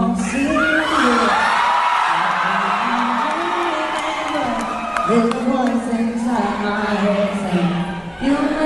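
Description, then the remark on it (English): A loud concert audience yells and shouts continuously at a female performer, demanding that she sing, voices overlapping in a sustained, rowdy clamor with a few sharper whoops rising above the din. “They're yelling at her to sing.”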